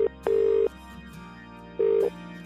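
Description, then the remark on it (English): A phone line ringing out as Free Radio calls a listener: steady mid-pitched ringback tones sound in short bursts, separated by a pause, over a quiet background bed, with no one speaking. “and we'll see if we can get hold of her.”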